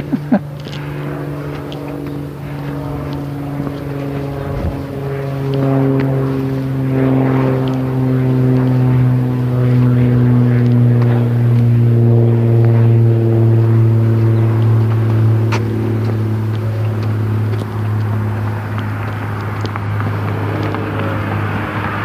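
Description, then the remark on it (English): A small propeller plane, a light aircraft heading west toward the mountains on a morning, drones steadily overhead, its engine hum loud and sustained, the pitch sinking gradually as it passes and moves away. No one speaks. “Light aircraft heading west toward the mountains.”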